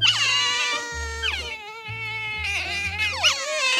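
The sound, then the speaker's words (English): Pet otters calling in shrill, whining squeals that rise and fall in pitch, running almost nonstop over a low steady hum, with a slightly quieter stretch in the middle. “These are the calls of pet otters.”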